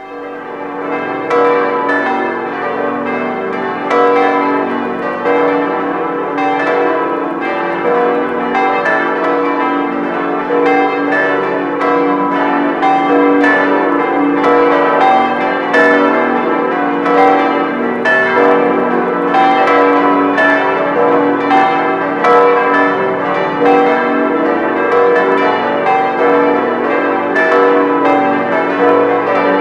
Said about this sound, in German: das Morgenläuten kommt aus Bingerbrück. Und deswegen hören wir jetzt auch die Glocken der katholischen Kirche St. Hildegard und St. Robertus.